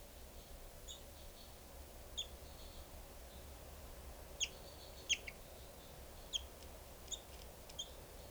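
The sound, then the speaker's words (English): Short, high chirping calls from two birds, numbered 395 and 425, both calling, come at irregular intervals. There are about seven faint bursts over a steady low background hum with no voices. “395 and 425, both calling.”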